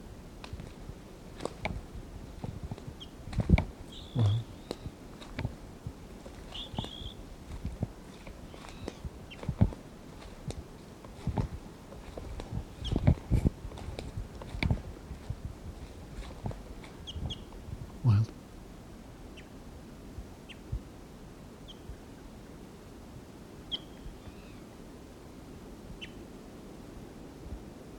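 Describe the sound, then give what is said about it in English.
A wild bird gives short, high chirps at scattered intervals, fairly faint, over a steady wash of wind-like noise and irregular crunching steps or rustles. “Wild bird.”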